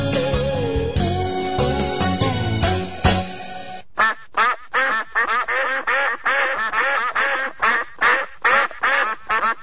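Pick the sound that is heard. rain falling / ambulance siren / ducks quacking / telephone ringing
ducks quacking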